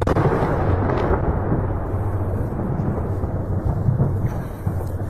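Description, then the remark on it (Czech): A deep, continuous rumbling roar from Russian missile strike explosions during shelling aimed at the airfield in Ivano-Frankivsk, heavy in the low end and steady in loudness for the whole stretch, with no voices. “Так пацують російські ракети. Почався обстріл.”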